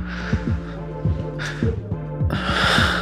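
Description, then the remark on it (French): Ragged, gasping breaths come in uneven bursts, with a sharp intake midway and a longer heavy exhale at the end, fairly loud over a steady low throbbing pulse. No one speaks. “Et entendre ma respiration hachée, heurtée.”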